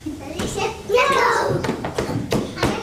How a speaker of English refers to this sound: A sea of toddlers throw around colorful blocks and balls at an indoor play center in the Wyoming state capital of Cheyenne.